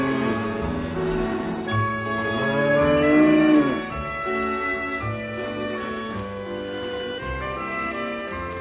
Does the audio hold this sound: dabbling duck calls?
no